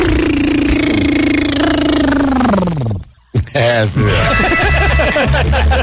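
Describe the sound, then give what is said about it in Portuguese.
A voice imitates a cartoon flying car: a sustained buzzing hum that glides downward and cuts off, then a warbling, wobbly whir, loud with no other sounds. “Você lembra dos barulhinhos dos carros voando, né?”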